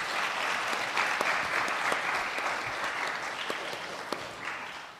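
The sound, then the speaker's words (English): Steady applause from an audience for a panel fills the whole stretch, a dense patter of many hands clapping at an even level with a few sharper individual claps standing out. “Great, can we have a round of applause for the panel?”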